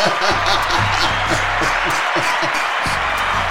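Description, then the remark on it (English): A crowd claps steadily throughout, a dense wash of many hands, with a voice murmuring underneath the applause. “Give him a hand clap, man.”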